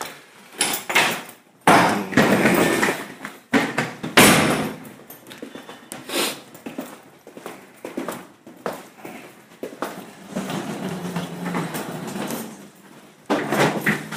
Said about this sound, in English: No, Jesus, this door is locked.